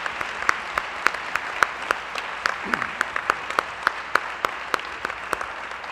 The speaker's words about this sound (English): Ladies and gentlemen, a round of applause for our terrific panel.